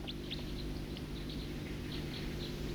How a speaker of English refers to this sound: That's the flight call of the second songster.